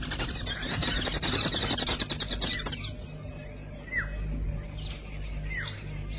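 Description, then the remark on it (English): Busy chatter of many social weaver birds chirping together at a gigantic nest in a tree, flying in and out of its holes, for a few seconds, then it thins to a few scattered, sharp downward-sweeping calls over a low background rumble. “Flying busily in and out of the holes, the most gregarious of all birds, the social weavers.”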